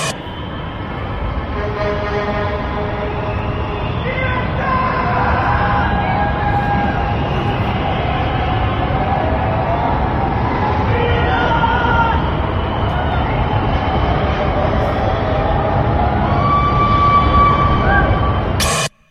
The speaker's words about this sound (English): There's good something about yelling freedom off your balcony, which means it hasn't truly sunk in.